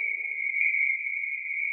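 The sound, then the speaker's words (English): Frogs calling at night beside a stream at a campsite, recorded with a microphone outside a tent, heard as a steady, unbroken high-pitched trill that holds at the same pitch and loudness throughout, with a faint low rustle early on and no voices. “I heard the frogs.”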